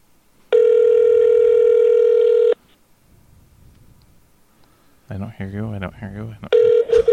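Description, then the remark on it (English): A loud electronic phone ring sounds for about two seconds, falls silent, then starts again near the end, with a voice talking briefly just before the second ring. “it's Bob calling to bust my balls. Uh-huh. I'm not going to answer the phone.”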